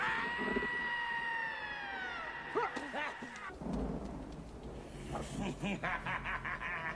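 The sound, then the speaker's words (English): A loud, sustained high-pitched scream wails and slowly slides downward for about three seconds, then gives way to choppy vocal outbursts over a noisy, rumbling background. “Oh, come on, you scream like a girl. Do it like this.”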